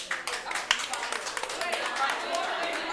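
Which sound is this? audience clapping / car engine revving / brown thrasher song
audience clapping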